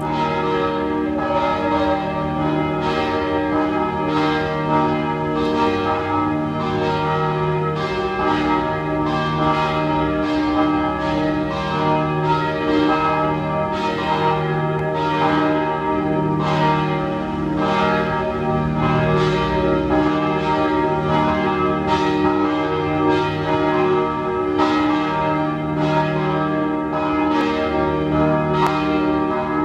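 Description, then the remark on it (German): The bells of the Penzing parish church in Vienna's 14th district ring together at 12 noon in a continuous, overlapping peal, loud and steady throughout, with rich sustained tones and repeated strikes blending into a full chime. “Sie hören die Glocken der Pfarrkirche Penzing im 14. Wiener Gemeindebezirk.”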